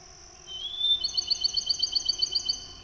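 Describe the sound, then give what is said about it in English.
A Bachman's sparrow (pinewood sparrow) sings from a limb in a pine in darkening woods by a swampy area: a clear, sustained whistled note followed by a rapid, sweet trill of repeated notes, bright over a quiet background. “Oh my, the musical songs of a Bachman sparrow.”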